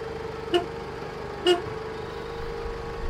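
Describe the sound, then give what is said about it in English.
Two short car horn taps, about a second apart, sound over a steady low engine idle, clear with nothing else around, from a car stopped with its headlights off at an abandoned salt tunnel in South Park. “Tap the car horn and wait for me to appear.”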